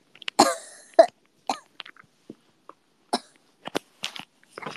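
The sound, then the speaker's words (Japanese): A choking coughing fit: a harsh burst of coughs up front, then a scattered string of smaller coughs and throat-clearing sputters over several seconds, close and fairly loud, with no talking. “むせてる。”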